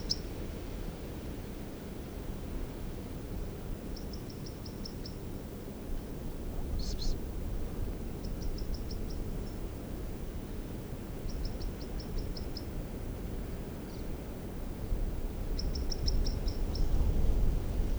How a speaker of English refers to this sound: I don't see the bird. I did see something on top of a very large tree stump that's about 6 feet high. And the call is just so, or song or whatever this is just so monotonous for a crossbill.